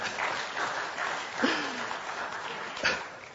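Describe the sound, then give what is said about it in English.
An audience claps for a few seconds: a dense, steady patter of many hands at moderate loudness, with a couple of brief sharper accents partway through, and no voices. “I wasn't expecting a clap, more of a dramatic pause moment, but that's okay.”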